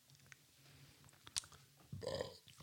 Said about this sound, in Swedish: Jag rapa.